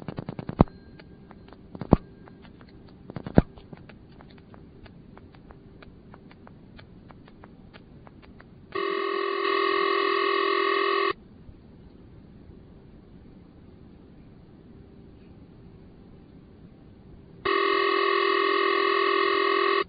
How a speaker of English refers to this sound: If you dial 9 on the Leich PBX, it connects with the CX100. So let's dial 9. We'll get the dial tone from the CX100. And then we'll dial a ringing number in the CX100.